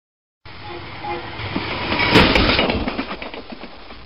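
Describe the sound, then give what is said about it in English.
A train heading north and approaching Avon rumbles steadily along the rails with a rhythmic clatter, building to a louder burst of rattling and screeching midway before settling back into a continuous rolling noise. “Excuse me, is this train going to Petten?”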